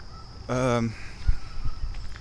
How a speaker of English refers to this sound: There's a goose wigging out.